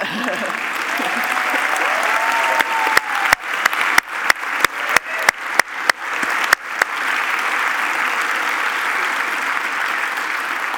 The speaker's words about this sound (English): And so what we want to do is take a moment to ask our high school graduates and our college graduates to please stand. We would love to honor you and applaud you for your efforts and your successes.